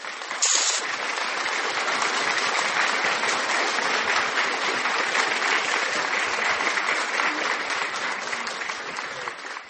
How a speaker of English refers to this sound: Applaud, applaud for the Holy Ghost. Applaud, applaud for the Holy Ghost. Applaudis pour le Saint-Esprit. Applaudis, applaudis très fort pour le Saint-Esprit.